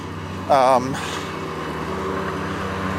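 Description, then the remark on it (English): A lawn mower drones steadily throughout, a low, even motor hum. A brief warbling, voice-like tone rises over it early on and then fades. “Yeah, someone's mowing the lawn over here.”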